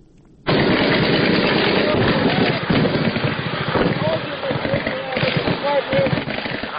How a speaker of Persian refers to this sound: شبرغان جنگ برای 90 روز طول کشیده و زندگی مردم این شهر را مختل کرده است. صدای شلیک سلاح های سبک و سنگین در جنگ شب و روز در اطراف و داخل شهر شنیده می شود.